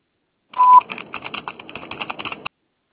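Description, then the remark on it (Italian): A brief steady electronic beep, like a voicemail recording tone, followed by a quick irregular run of short clicky tone bursts lasting about two seconds, with no voices. “Después del tono, ¿Aló? grabe un mensaje.”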